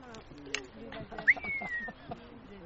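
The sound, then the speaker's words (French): A jay gives a near-perfect imitation of a buzzard's call: one clear, high whistle that slides downward and fades, heard once while people talk quietly underneath. “Ben, tu écoutes un G. Et tu as le cri, parce qu'il le fait parfaitement.”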